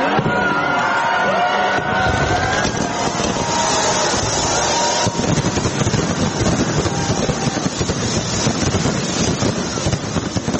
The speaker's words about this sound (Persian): شهر سیدنی با آتش بازی بی سابقه از سال نو 2023 میلادی را استقبال کرد.